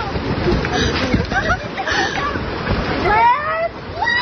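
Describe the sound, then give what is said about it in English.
A house with a woman still inside being shoved through trees as it starts to move: a steady roaring, rushing wash of noise with high creaking, scraping whines rising over it, and faint voices of women yelling for her to get out of the house mixed into the din. “She's in this house as it's starting to move, and you can kind of hear the house kind of going through the trees, starting to get pushed.”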